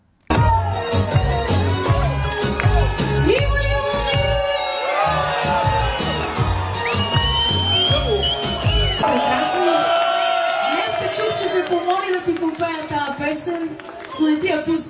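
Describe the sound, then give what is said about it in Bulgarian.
A loud, lively party crowd cheers and shouts nonstop inside a packed venue, voices overlapping with whoops over a thumping, steady music beat throughout. “Така че ето малко атмосфера от заведението”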